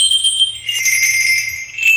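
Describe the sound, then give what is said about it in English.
Tuned sleigh bells jingle continuously with bright, pitched metallic ringing, a steady shimmering shake that stays fairly loud throughout, with no voices. “Here's some more sleigh bells, but these ones are tuned.”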